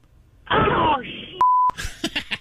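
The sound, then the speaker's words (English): A short, flat electronic censor beep, a single steady tone lasting about a third of a second, cuts into the middle of loud speech, with talking before and after it. “It was lovely beeping you.”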